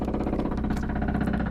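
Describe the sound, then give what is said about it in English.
A jackhammer right outside the wall pounds steadily in a rapid, unbroken rattle, low and heavy with a dull, muffled thud, running the whole time with no voices. “I'm sorry, but I think there's a jackhammer right outside our wall.”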